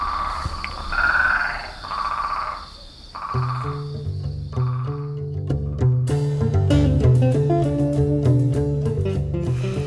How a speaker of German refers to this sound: Die Hintergrundmusik dazu, die liefern die Frösche. Und ich spüre eine tiefe, angenehme Ruhe.